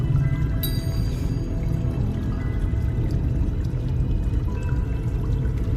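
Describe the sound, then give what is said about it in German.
Water pours steadily, a continuous rushing flow with a full, low churning body and faint splashy detail on top, constant throughout with no voices. “Vielleicht sollte ich mir das Wasser einmal näher ansehen.”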